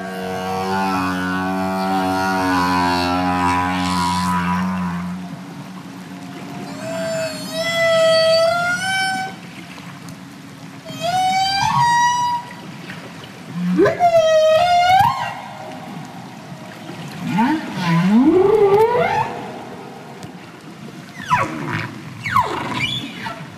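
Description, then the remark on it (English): Right whale calls underwater: a low droning moan first, then a series of rising, whooping upsweeps and tonal cries, some with harmonics, spaced a few seconds apart with no speech. “These are right whales again, but they make sounds other than what we heard earlier.”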